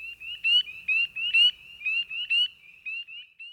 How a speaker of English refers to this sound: Spring peepers.